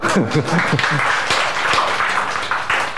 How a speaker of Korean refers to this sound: 박수.